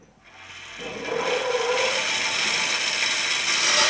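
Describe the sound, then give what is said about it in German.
A woodworking machine, switched on to saw boards, starts up after a brief quiet moment as its lever springs straight back, then runs with a loud, steady, rasping whir that holds to the end. No one speaks. “Ich habe die Maschine eingeschaltet und da ist der Hebel sofort zurückgesprungen.”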